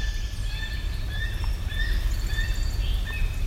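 Several thin, high gull-like calls come in short repeated bursts, some sliding slightly in pitch, over a steady low rumble of wind or background noise. No one speaks.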